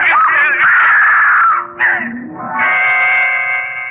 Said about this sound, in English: Scream brought me back to reality. I had been on the point of pushing her down there to certain death.